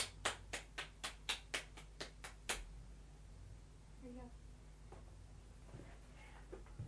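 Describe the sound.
A mother claps for a child who is balancing: a run of about nine quick, crisp hand claps in a steady rhythm, then the clapping stops and faint voices and soft rustling follow.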